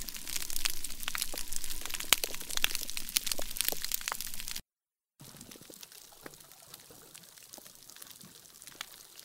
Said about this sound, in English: So those are the sounds of all the little clicks and whistles and pops that fish make to each other. You know, we think of fish as being quiet, but that's just because we don't speak fish.